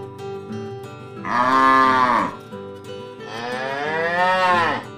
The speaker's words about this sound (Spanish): ¡Es una vaca! Las vacas dicen ¡muu! Son animales grandes y fuertes.